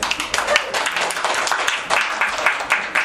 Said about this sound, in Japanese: じゃあ拍手。